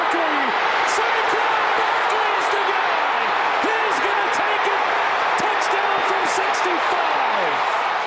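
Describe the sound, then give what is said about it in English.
A huge stadium crowd in New Orleans, at an Eagles–Saints football game, roars and cheers without pause for about eight seconds, a dense, loud wash of voices with scattered shouts and whoops rising and falling above it. “How about that crowd in New Orleans? Yeah, it sounded like everyone was an Eagles fan.”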